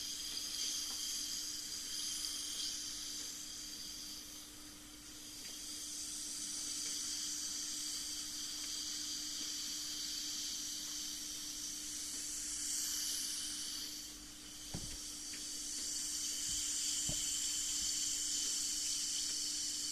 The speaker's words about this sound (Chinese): 我们再放一片泡腾片吧。